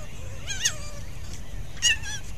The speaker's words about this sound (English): that's the coyote barking in the background. And then you hear the fox barking and the coyote running away to chase her